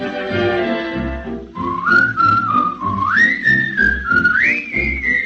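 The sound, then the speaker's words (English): Someone whistles a short, sliding tune, loud, starting a moment in, over a steady instrumental accompaniment with a bouncy low rhythm. “Take the straight and narrow path, and if you start to slide, give a little whistle.”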